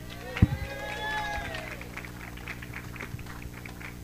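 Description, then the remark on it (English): An audience applauds steadily as a national representative is introduced, a dense wash of clapping that holds for the whole stretch, with a sharp thump near the start and brief whistle-like tones sliding through the first second. “Well, let's hope by tomorrow evening when you're full of banquet food that you're still willing to give up the applause.”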